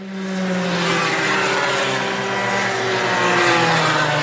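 Karts driven by young pupils aged 5 to 7 at a karting academy at Swartkopf's race around a track: small kart engines whine steadily at high revs, several buzzing tones layered and shifting slightly in pitch as they race past, loud and continuous with no voices.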